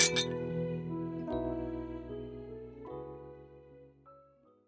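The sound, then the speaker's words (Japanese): Glasses of cocktail chūhai clink together in a toast to the moon at a moon-viewing party, three bright ringing taps spaced about a second apart, each tone lingering and slowly fading, fairly loud with no voices. “では、綺麗な月に 乾杯。”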